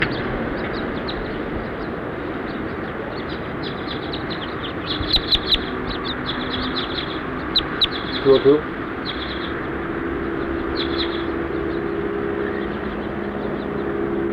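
A few brief, sharp bird chirps stand out in two short clusters over a steady, loud background hiss, with no voices.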